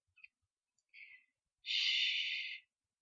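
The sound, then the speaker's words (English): Uneven, ragged breathing of a scared person: two short shaky breaths followed by a longer, louder exhale, with no talking. “Your breathing is so ragged.”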